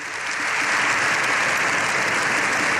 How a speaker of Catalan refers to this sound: Així, Lleó XIV ha rebut una ovació de fins a 7 minuts al final de la seva intervenció